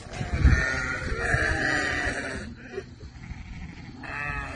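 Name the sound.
goats bleating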